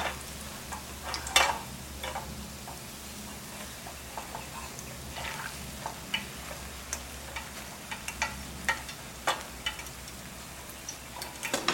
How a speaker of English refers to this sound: And then you want to let your rosette maker sit in the oil like that so it's nice and hot.